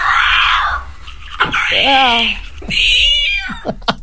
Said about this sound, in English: Do you want to hear them just... Only quickly, because they make me feel a little bit nauseous. Let me play my favourite ones of her brushing her teeth, getting the hiccups.